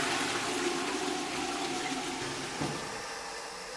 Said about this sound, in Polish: W tej kabinie nikt nie był, to jest czysto, ale wodę można spuścić, niech będzie świeżo.